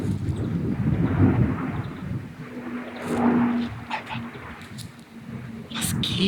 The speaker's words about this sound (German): Auch wenn der Donnervogel, den ziehen wir uns jetzt noch rein, hier viel zu nah über dem Himmel rüber brettert, ungefähr so auf, ich würde sagen, 100 Meter Höhe, brettert hier gerade ein Militärflugzeug rüber. Hört's euch an.